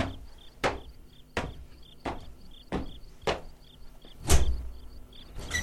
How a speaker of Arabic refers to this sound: افتح الباب